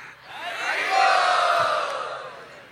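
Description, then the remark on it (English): A crowd cheers and yells together in a broad, sustained roar that swells to a peak midway and then gradually fades, with many voices blending into one loud wash of sound. “Let us all cheer his honesty.”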